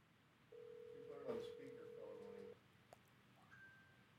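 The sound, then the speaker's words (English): One steady two-second burst of an outgoing call's ringing tone, a low electronic burr heard through the phone line, then a pause with a faint, thin higher beep near the end. “We're getting there. It's ringing.”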